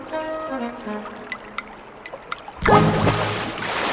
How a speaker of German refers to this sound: Platsch.